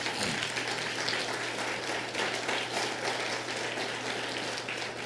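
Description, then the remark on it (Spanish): An audience at a Spanish-language church service applauds for the Lord in a steady, dense wash of clapping that holds at an even level for several seconds, with a low hum running beneath it and no speech. “Dale otro fuerte aplauso al Señor.”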